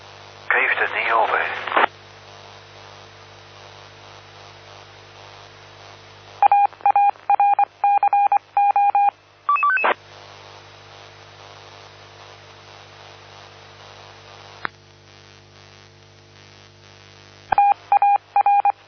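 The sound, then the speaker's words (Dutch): Telephone dialing tones beep in quick, evenly spaced bursts, two runs of short electronic tones over a steady low hum and faint static, with a brief noisy rustle at the start. “Nou, ik heb ook telefoon. Eén moment.”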